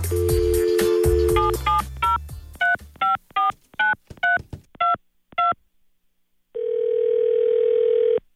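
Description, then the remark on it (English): A steady dial tone gives way to about ten quick touch-tone dialing beeps, followed by a pause and then a single sustained ringing tone on the line, as a prank phone call to a man is placed on The Bert Show radio program. The sound is clear, with no voices. “All right, let's get right on into the phone scam. Calling up a guy who I am now dating his ex-girlfriend, and I just want to know if she's a good catch.”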